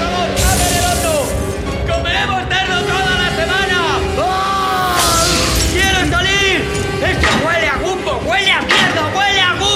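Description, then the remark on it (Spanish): Light bulbs burst in a couple of sharp, crackling pops, one early and one midway, as a man convulses, over a loud, continuous din of agitated crowd voices and wavering cries. “John se convulsiona, las bombillas estallan.”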